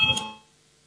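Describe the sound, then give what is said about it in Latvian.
A short electronic chime in the Latvian Saeima, calling a vote on a bill amending the packaging law at second reading, rings out once with bright sustained tones, fading quickly into a quiet low hum; no one speaks over it. “Lūdzu zvanu, balsosim par likumprojektu grozījumu iepakojuma likumā otrajā lasījumā.”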